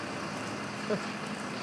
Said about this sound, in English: Buses and vehicles everywhere. Monday evening, and I'm just arriving at Waterloo.